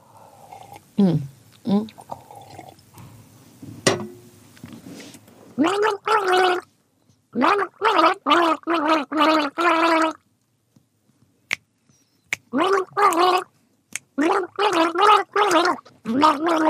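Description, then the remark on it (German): Someone gargles a melody, bubbling wet tones rising and falling in short rhythmic bursts with brief pauses between phrases, following a recognizable song tune after a few scattered clicks and sounds. “Ja, super, aber du hast wirklich die Töne in den Schleim gelegt, ja, muss man sagen.”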